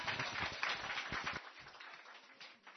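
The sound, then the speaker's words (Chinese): An audience breaks into applause to thank a participant. It is a dense crackle of many hands clapping at once, loud for the first second or so, then thinning and fading. “我哋俾啲掌声。”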